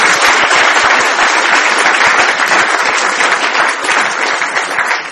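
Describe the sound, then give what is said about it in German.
An audience applauds to welcome a guest, many hands clapping in a dense, continuous patter that stays loud and even for several seconds with no voices over it. “Das ist mal Ihre Begrüßung hier vom Publikum.”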